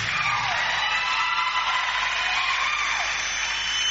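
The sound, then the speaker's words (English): A large audience on day 3 of a Christian gathering claps and cheers steadily, a dense wash of applause mixed with scattered shouts and whoops, loud and sustained throughout with no break. “Clap if you want to clap.”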